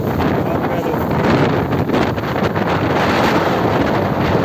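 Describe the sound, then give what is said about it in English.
A river swollen by a hurricane rushes past in a loud, continuous roar of churning water, with wind buffeting the microphone throughout and no break in the steady wash of noise. “This is a river. Usually the river is like this, nice and calm. But because of a hurricane, this is what we got going on, man.”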